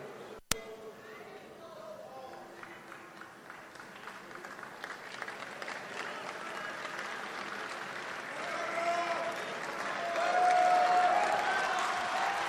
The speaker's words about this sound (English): Crowd reacting to the fact that he will have details in the coming days, seeming to demand them now. The third outbreak of protests.